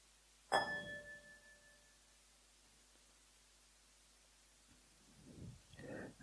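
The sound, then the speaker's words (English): A meditation bell, rung to end a meditation session, is struck once, its clear tone ringing out and slowly fading over a few seconds, with another softer strike starting just before the end. “And when I ring the bell three times, on the third time, if you'd like to come out of meditation, you're welcome to.”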